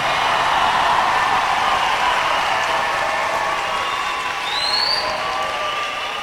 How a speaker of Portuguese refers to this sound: Aplauda o Senhor. Pode aplaudir com força.